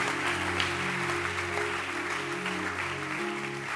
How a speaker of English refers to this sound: Clap your hands for Jesus. She's clapping her hands.